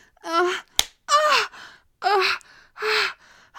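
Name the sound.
hand slapping skin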